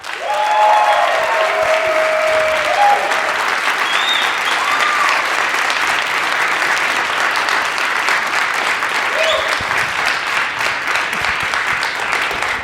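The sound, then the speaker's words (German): A crowd claps steadily for about twelve seconds to rate a submitted question, a dense, even wash of applause at constant loudness, with a few faint whistles and cheers rising above it early on. “Ich sag einfach, wer die gestellt hat und worum es geht, und dann gebt ihr euren Applaus.”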